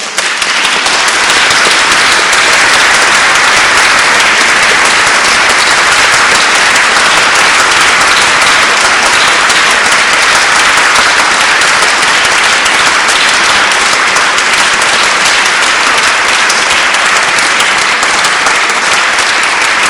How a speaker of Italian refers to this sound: il lungo applauso che testimoni del regalo che ci ha fatto il maestro